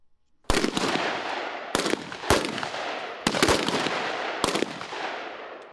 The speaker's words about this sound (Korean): 11일 경기도 동두천의 미 이사단 부대에선 여러 발의 총성이 울려 퍼졌습니다. 한국에 주둔한 미 이사단과 한국에 순환 배치된 3사단 1기갑여단 병력 등 총 24명이 최고 전사 자리를 놓고 경쟁을 벌이고 있는 겁니다.